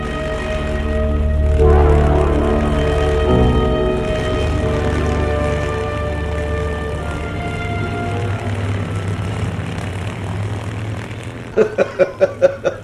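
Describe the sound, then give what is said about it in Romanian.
A propeller airplane engine roars up loudly with steady droning harmonics as the aircraft takes off, the pitch shifting over several seconds, followed near the end by a short burst of rapid rhythmic pulses. “Decolează.”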